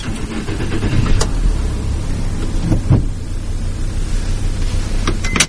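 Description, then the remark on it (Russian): A bus engine rumbles steadily while it drives, with low, continuous droning and a few brief mechanical clicks and thumps as the clutch, gears and throttle are worked, at a professional skills competition for bus drivers from St. Petersburg and Leningrad Oblast depots. No one speaks. “Сцепление, передача, газ, попробовать поводить автобус предложили даже журналистам.”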